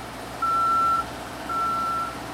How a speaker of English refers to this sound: These sounds are a crane and the man lift backup alarms.